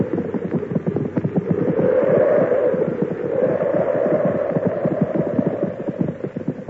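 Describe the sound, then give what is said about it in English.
Several horses, one called Brutus, clip-clop in a dense, steady patter, loud, with a low rumbling wash beneath the rapid overlapping strikes throughout, as they are brought in to shelter from a snowstorm. “Oh, bring the horses in too.”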